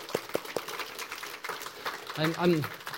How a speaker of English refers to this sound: The guys who taught the Logos class this past quarter, thank you so much for leading that, and thank you for teaching our church people. A round of applause for it.